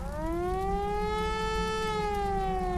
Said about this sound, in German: Um 11.03 Uhr, nur 4 Minuten nach dem Unfall, heulen in Eschede die Sirenen. Das Zeichen für die Mitglieder der Freiwilligen Feuerwehr, so schnell wie möglich zum Feuerwehrhaus zu kommen.